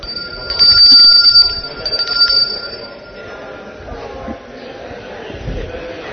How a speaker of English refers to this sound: Oh, I need to use the bell.